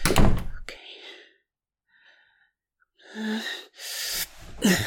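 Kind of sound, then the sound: household object, door being closed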